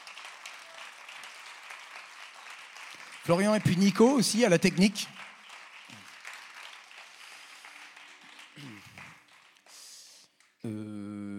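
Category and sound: crowd, audience applause and ovation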